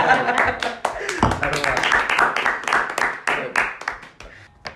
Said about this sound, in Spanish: Bueno, un aplauso para la mano.